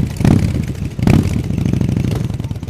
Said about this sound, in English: Members of a motorcycle club show off their bikes at a veterans benefit in Kansas City.